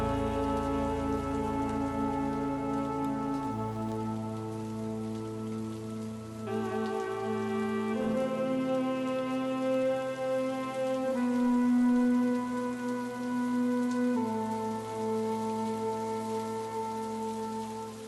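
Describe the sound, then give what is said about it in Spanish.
Steady rain patters continuously on steps, a dense even hiss throughout, while sustained, slowly shifting string-like tones play over it. “Lluvia que cae eternamente sobre estas escalinatas tristes.”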